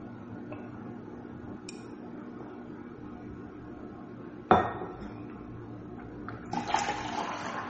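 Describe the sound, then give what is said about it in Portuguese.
Glassware and dishes being handled as someone gets water to drink: a few faint taps, then one sharp, loud clink, followed by a burst of running water pouring into a glass near the end. “vou até tomar água.”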